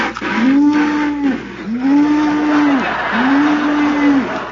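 A cow moos three times in steady succession, each call a long, drawn-out low bellow, loud, over a constant background hiss with no talking.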